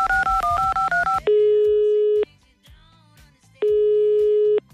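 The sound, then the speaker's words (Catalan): A quick run of about seven touch-tone dialing beeps, followed by two long, steady telephone ringing tones separated by a quieter pause of roughly a second and a half, as a radio presenter phones the programme's on-duty psychologist. “Per pocs dies, perquè davant d'aquesta allau he trucat a l'Helena Puigguitar, la nostra psicòloga de guàrdia.”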